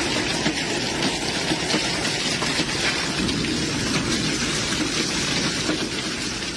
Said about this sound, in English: pulled out her phone to record as the hail pelted her home.